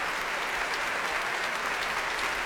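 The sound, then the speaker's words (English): Sustained applause from a large audience at the Royal Albert Hall during a Proms orchestral concert, for E-flat clarinet player John Cooper, a dense, steady wash of clapping with no breaks or voices, holding an even loudness throughout. “Applause here at the Royal Albert Hall for E-flat clarinet John Cooper.”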